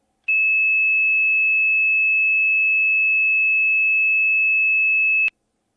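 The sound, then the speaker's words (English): A single steady, high-pitched 2600 hertz tone comes down a phone line, holding one unwavering pitch for about five seconds, beginning and ending abruptly with a faint click. “And what you will hear coming down your phone line in just a second is 2600 hertz.”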